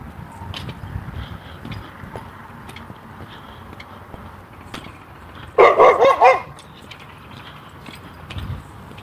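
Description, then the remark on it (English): A dog lets out a quick burst of about four sharp, rapid barks, loud, breaking into an otherwise quiet background with faint low rumbling. “A dog.”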